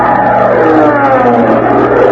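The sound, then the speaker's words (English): A loud, steady bee buzzing drones for a couple of seconds, a continuous rough hum with no pauses and no voices over it; a bee in an Abbott and Costello comedy routine, counted as bee 29. “That was bee 29.”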